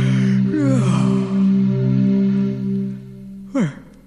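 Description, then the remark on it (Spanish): A long, drawn-out voiced yawn, its pitch sliding and wavering for several seconds before fading, followed by a short breathy exhale. “Si yo quiero bostezar y puedo bostezar, no me quedo con las ganas de bostezar.”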